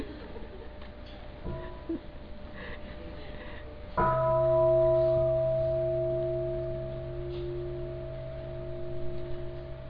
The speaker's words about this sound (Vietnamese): Kính thưa đại chúng, nãy giờ sư phụ cần con thêm tiếng chuông để thở, chạy đâu mất cái.